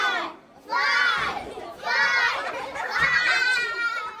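A noisy crowd of children and parents chattering and shouting over one another in the cafeteria at an open house at Eastgate Elementary school in Bellevue, with excited high-pitched kids' voices rising in waves, loud throughout.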